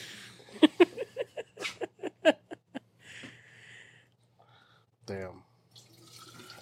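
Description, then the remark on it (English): Water pours into a glass in a quick run of rhythmic glugs, fairly loud, followed by a short pause and a brief vocal sound. “Do you ever pour some water and you just think like, yo, this water is about to slap?”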